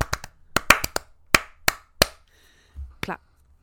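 Sharp hand claps in an uneven rhythm, about ten crisp smacks with short gaps, plus a soft low thump and a faint high tone near the end.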